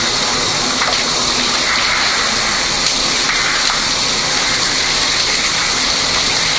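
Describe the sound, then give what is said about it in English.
Steady rush of running shower water splashing and spattering continuously as shampoo is rinsed out of hair, a dense hiss with faint irregular taps, no voices. “And now let's do a rinse.”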